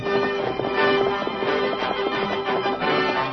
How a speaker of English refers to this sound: No hoofs had ever beat the plains like those thundering hoofs of the great horse Silver.